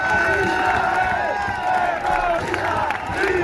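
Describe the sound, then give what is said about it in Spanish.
A large crowd chants and shouts together in the street during a cycling race stage, shouting "Israel genocida", many overlapping voices forming a loud, continuous roar with rising and falling vocal tones throughout. “Este era el ambiente de las calles.”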